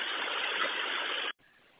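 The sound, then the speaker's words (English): A bus engine idles with a steady, even drone that cuts off abruptly near the end, leaving a quieter, softer rumble. The bus has no passengers aboard, on a chilly morning. No one speaks. “Okay, should I leave the bus on or off with a hazard on?”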